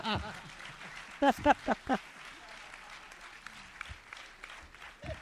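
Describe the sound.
A crowd claps steadily in a dense, even wash of applause, voting by applause in answer to a host's question, while a few loud voices shout or cheer in short bursts near the start.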